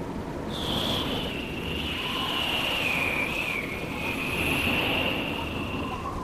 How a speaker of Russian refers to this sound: самый громкий вздох на свете – это ветер.